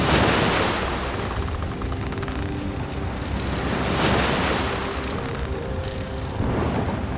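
Rough ocean water rushes steadily around a sailing boat slamming against wave after wave, with heavy surges of spray hitting about three times and low creaking groans running underneath. Wind noise fills the background, and no one speaks.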